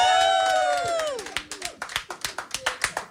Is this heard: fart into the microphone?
no